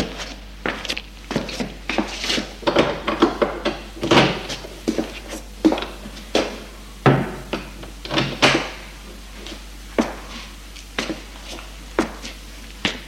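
A door being opened on the first floor: a long run of irregular wooden knocks, clicks and rattles, fairly loud, with short pauses between the sharp bursts and no voices.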